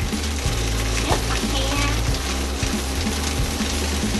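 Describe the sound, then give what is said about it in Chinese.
Finely chopped food sizzles steadily in a hot pan as it fries for two or three more minutes, a continuous crackling hiss with a low hum underneath and a few faint knocks, no one speaking. “咁而家其實煎多兩三分鐘咧，就應該可以㗎啦。”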